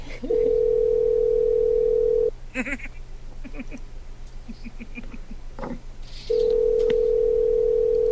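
A steady, loud telephone dial tone hums for about two seconds, then a quick series of short dialing beeps is punched in before the continuous dial tone returns.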